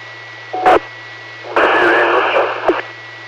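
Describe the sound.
Harsh radio static crackles through a Pike County radio scanner transmission in two bursts, a short one then a longer wash of noise, with a steady hum beneath and garbled voice fragments barely breaking through.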